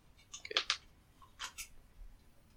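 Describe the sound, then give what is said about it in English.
Dice rattle and clack across a hard surface in two quick bursts of sharp clicks, with a brief pause between them and no talking. “That's an 8 on the dice already.”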